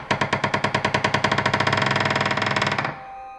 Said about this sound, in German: Dann das Rasseln von Ketten und das Geräusch schwerer Riegel. Und die große Tür ging auf.